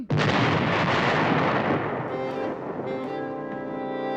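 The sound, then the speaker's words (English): A sudden, loud burst of gunfire from American troops erupts, its booming roar rumbling for a couple of seconds before fading under sustained English horn tones. No one speaks. “What was that? English horns. No, before that. Oh, gunfire.”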